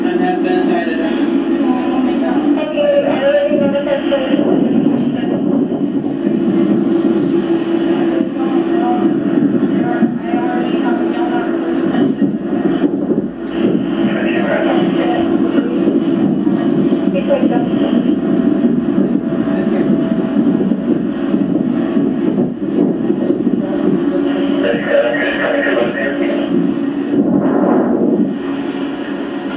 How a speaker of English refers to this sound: There was a helicopter just landed.